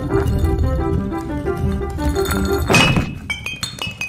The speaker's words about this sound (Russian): Но банка оказалась очень тяжелой. Может, положить ее на бок и катить?